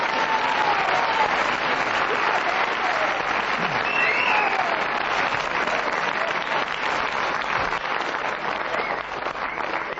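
Sustained, loud applause from a large studio audience fills the whole stretch, a dense steady roar of clapping with faint whoops and cheers rising through it, built up by Kenneth Williams' antics as he heard he was the winner.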